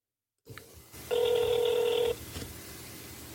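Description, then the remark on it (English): A telephone line rings once during a call to FreshBooks customer support, a steady buzzy electronic tone lasting about a second, framed by faint clicks and a low line hum, with no voices. “So you know what? Let's call them up and see what happens.”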